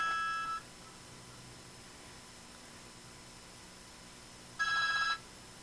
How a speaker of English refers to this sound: Oh, your phone's going to ring.